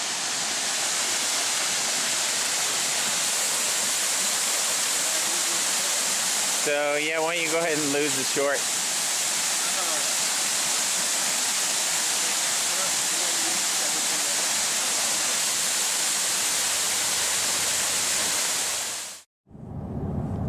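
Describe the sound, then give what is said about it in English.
A steady, loud roar of rushing water from a waterfall fills the scene from start to finish, constant, with a man briefly speaking over it partway through before it cuts off abruptly near the end. “Okay, so we're here at a really pretty waterfall.”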